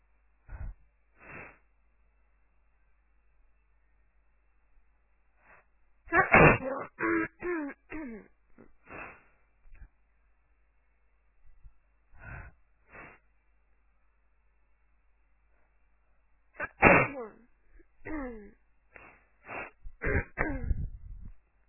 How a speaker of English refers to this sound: Hi everyone. Funny enough, I got a cold today. So I thought I could record some of my sneezes for you.